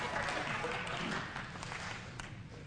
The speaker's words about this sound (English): Amen? Oh, got a couple claps there. Good.